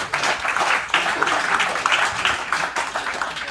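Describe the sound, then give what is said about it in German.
An audience at a live talk event applauds, a dense, steady crackle of many hands clapping together that holds at an even, fairly loud level throughout, with no distinct voices breaking through. “Ich kann aber euren Applaus noch nicht hören.”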